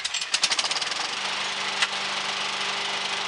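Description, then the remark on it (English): A small petrol lawnmower engine sputters into life with a few uneven pops, then settles into a steady, buzzing drone, with no voices. “Morning, we're turning back the clock on May 2nd, the day in 1955 that a patent was lodged for the first Victor lawnmower by Mervyn Victor Richardson.”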